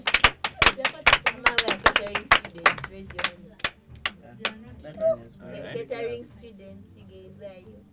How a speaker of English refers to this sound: First clap for this girl. Big clap for her.